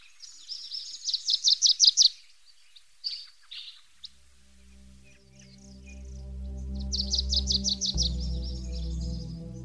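Birds chirp in quick, bright trilling bursts, fading briefly before another rapid run of chirps returns, while a low, steady humming tone rises underneath in the second half.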